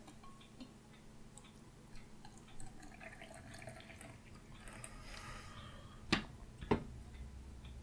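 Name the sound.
pouring coffee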